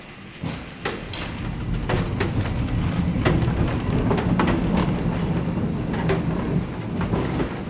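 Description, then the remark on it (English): A San Francisco cable car rumbles along steadily, its low mechanical drone punctuated by sharp, irregular clicks and clacks of metal on rail, with no voices heard. “the folks who keep San Francisco's most iconic public transportation system in working order”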